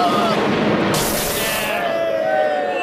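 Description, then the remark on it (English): A thunderbolt strike that hits its target: a loud, harsh crackling blast that bursts out and lasts under a second, followed by thin high tones sliding downward as it fades. No one speaks. “Gary, you got him, the perfect thunderbolt.”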